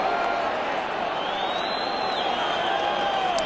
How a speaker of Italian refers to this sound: Finisce il primo tempo allo Juventus Stadium. Sentiamo la reazione del pubblico.